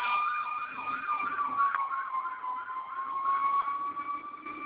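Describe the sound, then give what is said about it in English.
A fire engine siren wails steadily as a fire engine goes by in the morning, its warbling tone rising and falling in quick cycles over a constant high whine, fairly loud and continuous with no talking. “And this fire engine's going by, so forgive me about that.”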